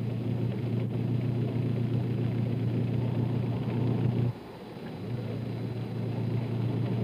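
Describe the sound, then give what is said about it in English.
A loud, steady engine rumble of trucks, buses and cars carrying migrant laborers toward the southern states in November, with a deep droning hum that briefly drops away partway through before the traffic noise picks back up. “Now it is November, the last of the laborers, in trucks, buses, and cars, approach the southern states to start the cycle all over again.”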